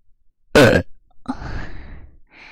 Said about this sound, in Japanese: 今日は、ゲップで興奮しちゃう変態さんのために、耳舐めをしながら、ゲップをしていこうと思いまーす。